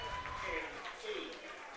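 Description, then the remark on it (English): A ballpark crowd at a Doughboys baseball game applauds Rocky the Bat Dog, a steady, fairly soft wash of clapping and murmuring voices that holds evenly for about two seconds. “Here's the applause for Rocky, the Bat Dog.”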